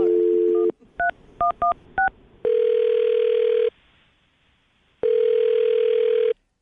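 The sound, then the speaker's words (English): A dial tone cuts off, then five quick touch-tone beeps of a number being dialed from a computer using a Skype number, followed by two long ringback tones separated by a pause, heard clearly through a phone line with no talking. “I'm going to dial his phone number. Hopefully he answers, and you can make your Awkward Tuesday phone call.”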